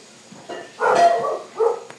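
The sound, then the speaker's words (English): A dog guarding the perimeter barks a few times, short sharp yaps in quick succession with brief pauses between them, fairly loud. “I got to get out that bark collar.”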